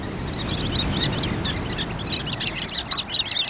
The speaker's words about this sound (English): Here and there along winter shorelines, both on the Pacific and Atlantic, little flocks of pale, silvery shorebirds probe at the water's edge, keeping pace with each wave's ebb and flow. These small sandpipers are called sanderlings.